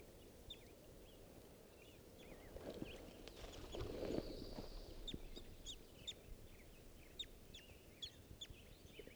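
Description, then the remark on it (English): Short, high bird chirps from a bird at a little waterhole at a scout camp, at 7:30 in the morning, repeat irregularly over a steady low rumble, with a few louder thumps and scuffs in the middle. No one speaks. “This is one of the birds, I'm not sure which.”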